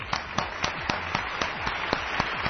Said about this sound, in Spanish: Un aplauso para él, sí señor.